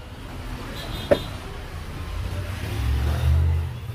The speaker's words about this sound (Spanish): Como podemos ver, ahí pues tiene ya el botón instalado, le está el stop, pisa el freno y ahí prende el vehículo.